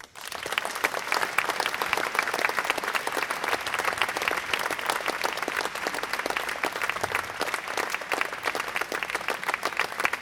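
Sustained applause from an audience at a school farewell for departing Abitur students who played in the school's music ensembles, a dense, steady wash of many hands clapping at once, holding at an even, fairly loud level for the full ten seconds with no voices over it.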